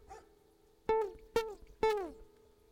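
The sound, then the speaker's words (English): A dog barks three times in a quick, evenly spaced series, each bark sharp with a short tonal tail, over a quiet low background hum. “This is like a dog highway here.”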